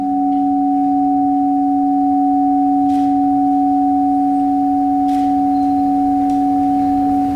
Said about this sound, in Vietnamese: Các hành động không mất đi sau khi hành động vừa kết thúc, nó vẫn tiếp tục tác động theo cách này hay cách khác, giống như là cái tiếng chuông này.